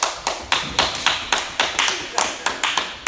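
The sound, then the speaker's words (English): An audience claps to cheer on a speaker: about a dozen crisp, bright claps at an even pace of roughly four per second, loud and alone with no talking over them. “Come on, y'all clap for it.”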